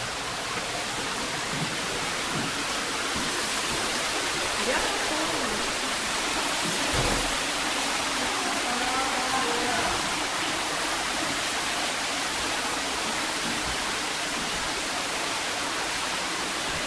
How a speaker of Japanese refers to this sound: 川津には実は8番目の滝があるという設定で、設定なんて言っちゃいけませんが、そういうことで滝が作ってあるそうです。